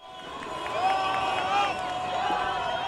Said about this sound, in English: Anti-Morsi protesters in front of the main presidential palace cheered as an Egyptian army helicopter flew over the crowd.